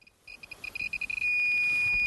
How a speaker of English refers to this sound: That's a sound you don't want to hear while wandering around Fukushima. When your Geiger counter stops clicking and starts screaming like that, it means you've probably entered a radiation hotspot. And that's exactly where we were